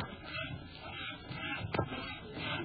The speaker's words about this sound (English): is that someone sawing wood? Is what someone sawing wood? Well. I thought I heard a saw.